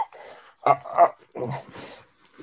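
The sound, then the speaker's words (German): A startled dog lets out a few short yelping whines in quick succession, each burst rising and fading, with a quiet background between them. “Oh, der Hund erschreckt sich auch gerade hier.”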